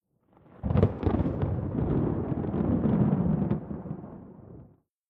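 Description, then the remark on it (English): A single long roll of thunder from a thunderstorm opens with a sharp crack and then rumbles deeply and steadily for about four seconds before fading out, with no voices. “Soon the thunderstorm was far away.”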